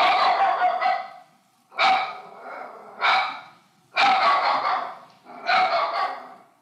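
A dog barks five times in loud, drawn-out bursts with short irregular pauses between them, and no one speaks.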